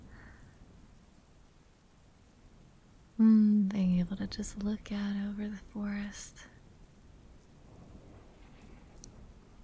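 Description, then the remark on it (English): Steady, soft rain patters continuously, a gentle even hiss heard from under an awning at night, while a voice speaks briefly in the middle. “Rain falling down, the moon's out.”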